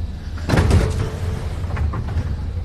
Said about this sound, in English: The doors are closing.